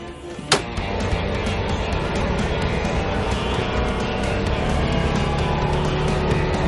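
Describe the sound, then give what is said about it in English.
A Rhino utility vehicle's engine drones steadily, a rough, continuous motor rumble with rattling road noise, opening with a sharp click before settling into an even drive. “Oh, this is my Rhino. I didn't want to run out of juice.”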